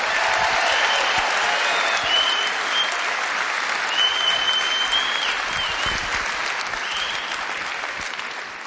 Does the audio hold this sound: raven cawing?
no